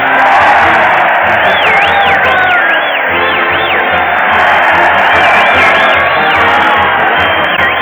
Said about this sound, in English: The crowd is cheering Fred Allen as he leads his weekly parade to the old Town Hall.